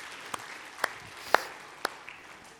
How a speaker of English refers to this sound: Okay, why don't we give everyone a clap who gave some feedback there.